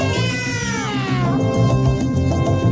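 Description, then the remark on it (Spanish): A cat lets out a loud, drawn-out meow, its pitch rising and then sliding down, over a steady low rumbling background. “Se me sale el gato, neno.”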